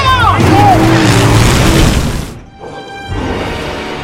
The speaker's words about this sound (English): The license plate reads, Al Camino. The monster truck zooms out of the garage.